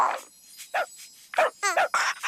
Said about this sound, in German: Hey, hast du das gehört? Der Hund lädt dich in sein Körbchen ein.